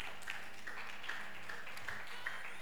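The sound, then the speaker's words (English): A group of people clapping together in a soft, steady wash of applause, with a few sharper claps standing out at a fairly regular pace and no one talking. “Let's clap for him again.”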